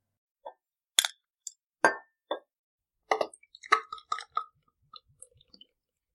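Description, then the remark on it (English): A bottle of 10% alcohol beer being opened indoors at the Quiet Inn: a few sharp clinks of glass, a brief hissing pop, then a scatter of quick taps and soft gurgling plops that trail off, with no one speaking. “Yeah, let's do it. Okay. Let's open it.”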